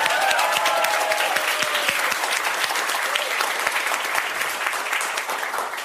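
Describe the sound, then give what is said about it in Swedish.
Warm audience applause welcoming satirist and cartoonist Nanna Johansson: a dense, steady patter of many hands clapping, sustained for several seconds before easing slightly at the end. “Ge en varm applåd till Nanna Johansson.”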